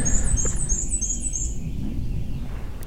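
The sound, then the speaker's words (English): An ovenbird calling in a forest, recorded with a mini parabolic microphone pointed up at the trees: a series of sharp, repeated two-part chirps that ring out clearly for a couple of seconds, then stop, over a steady low rumble of forest background noise. “We've got oven birds calling, which obviously seem to be the loudest bird in the forest.”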